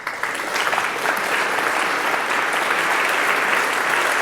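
Audience applause, a dense and steady wash of many hands clapping that swells in the first half second and then holds loud and even throughout, with no voices rising above it.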